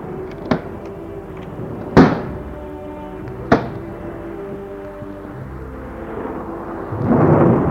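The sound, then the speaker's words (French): Three sharp thunder cracks ring out a second or two apart over a low, steady rumble, then a rushing gust of wind swells up loudly at the end as the wind blows open a poorly closed window, blows the curtains and gusts into the room during a storm with lightning. “Il souffle les rideaux et entre en rafale dans la pièce.”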